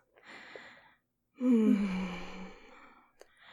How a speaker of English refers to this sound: His breathing has gotten a lot heavier.